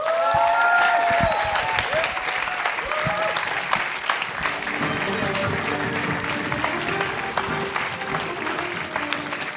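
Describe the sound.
Steady audience applause for the winner fills the whole stretch, dense overlapping claps at a fairly loud, even level, with some voices and cheers mixed in near the start.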